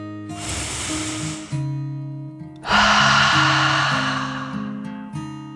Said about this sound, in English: She took a deep dragon breath in and out.